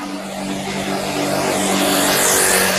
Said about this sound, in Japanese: ああ、今ね、おじいちゃんが、スクーターをね、駆け抜けていきます。